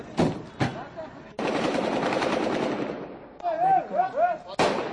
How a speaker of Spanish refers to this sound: Un ataque de los talibanes acabó ayer con su vida. Primero fue un coche bomba junto a un hostal en los aledaños de la embajada. Después, un intercambio de disparos. Este era el momento.